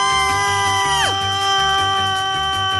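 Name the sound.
people screaming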